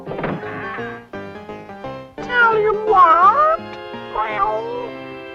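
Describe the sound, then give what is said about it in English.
A cat meows several times in long, wavering, drawn-out calls, loud and close, over a steady sustained musical tone that runs underneath throughout. “The cosmic cat may be able to tell us.”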